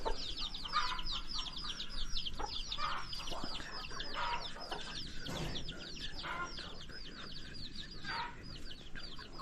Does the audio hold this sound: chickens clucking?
yes